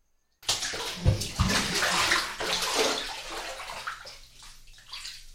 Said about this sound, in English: Now we rinse it out. I'll go back under the water, and you make sure to get everything out.